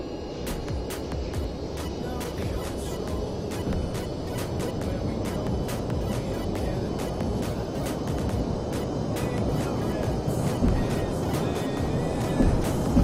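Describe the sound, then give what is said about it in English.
Airliner engines spool up toward full takeoff thrust after the parking brakes are released, a dense, steady roar with crackling high ticks running through it, growing slightly louder near the end. No one speaks. “Release parking brakes. Apply full thrust. Roger. Applying takeoff thrust.”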